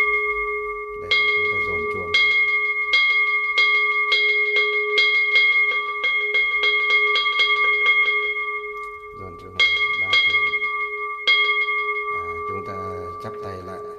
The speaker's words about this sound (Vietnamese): Khi chúng ta giải ra như thế này mà chúng ta nhìn thấy là các Phật tử và người nhà của họ đã ngồi vào đâu vào đấy rồi, trang nghiêm đạo tràng rồi, bắt đầu thì chúng ta mới dồn chuông.